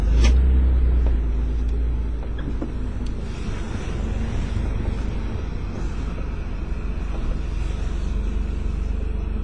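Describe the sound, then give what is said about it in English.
A car rolls slowly past barricades set up in the road, with a steady low rumble of engine and road noise, mixed with some wind buffeting; no one speaks. “And now I'm sneaking past the second and now the third barricade”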